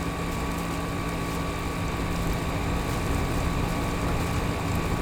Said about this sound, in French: Voilà, ça c'est évidemment le bruit de la climatisation. Comme beaucoup des pays de la zone tropicale, ça carbure à fond la clim.